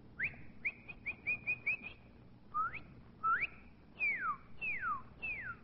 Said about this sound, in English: Well, at first sound, I thought it was the cardinal, but I'm not...